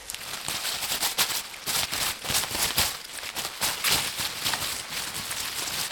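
A head of endive lettuce being rustled: crisp, crackly leaves shaken in a steady, dense flurry with irregular louder bursts, lasting throughout with no voices.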